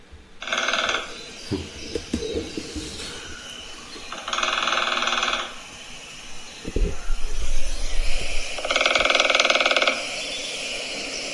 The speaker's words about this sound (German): Hier kommt ein Trommeln vom kleinen Specht, fand ich total schön. Habe ich auch schon mal gehört.